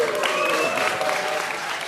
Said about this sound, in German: Ein Applaus für das NOC-Team.